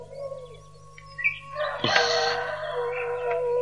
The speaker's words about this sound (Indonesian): Bejo perkututku sudah terdengar suaranya.